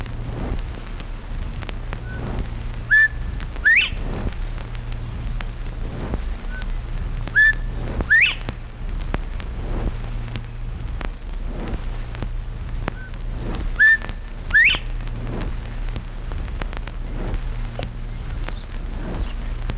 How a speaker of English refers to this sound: Bob White.